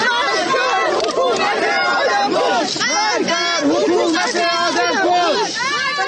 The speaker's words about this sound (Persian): مردی که از تنهایی دست جمعی می سرود و حالا تنهای تنها اینجا خوابیده، گوشه‌ای در امامزاده عبدالله شهر ری. و این فریادها که می گویند شاعر در نگذشته، جان باخته.